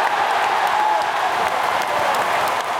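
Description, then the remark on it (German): A large audience applauding and cheering around a stage set up in the middle of a playing field, a dense, steady roar of clapping that holds at full volume for a few seconds without any clear voices standing out. “Ihr lasst das Publikum hinter euch, eure Bühne war mitten auf dem Spielfeld aufgebaut und ihr wisst, ihr habt jetzt noch genau so viel Zeit, wie das Publikum wild nicht davon ablassen kann, Jung ist die Königin zu grölen”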